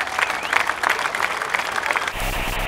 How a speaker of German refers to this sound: Also mal einen richtig guten Applaus für die Lieben, die sich für uns engagieren.